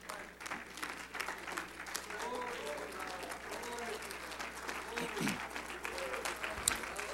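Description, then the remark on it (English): A standing church audience claps together in sustained, dense applause to bless God's name, lasting several seconds, steady and fairly loud, with scattered voices murmuring and calling out underneath. “Let's clap our hands and bless his name.”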